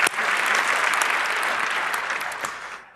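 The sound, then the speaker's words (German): During a talk, a crowd applauds Netzpolitik steadily, a dense wash of many hands clapping at an even, fairly loud level, tapering off slightly at the very end. No one speaks. “Die große Story, ja, ein Applaus für Netzpolitik.”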